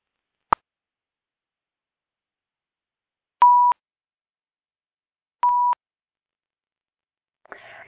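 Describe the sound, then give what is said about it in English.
A sharp click, then two short, steady phone keypad beeps about two seconds apart, clear, as someone mutes the phone to start a call, with a brief burst of voice starting at the very end. “We could give it a few more minutes, but I guess I'm just going to go ahead and mute the phone and get us started.”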